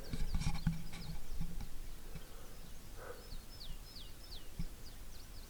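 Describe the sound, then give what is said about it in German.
Small birds chirp among pine trees in quick, high repeated notes, a few at first and then a steady run of short downward tweets, over a low outdoor rumble with no one talking. “liebe Vögel, ich hätte auch, ich wäre auch gerne Ornithologe oder sowas.”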